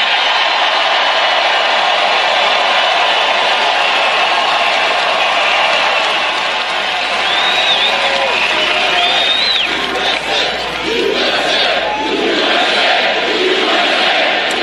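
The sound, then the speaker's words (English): A large crowd at a Keep America Great rally for Donald Trump in Minneapolis, Minnesota, part of his 2020 re-election campaign, roars and cheers steadily for the whole stretch, a dense wash of voices with scattered whoops and shouts rising above the din, loud and unbroken. “Huge crowd, by the way.”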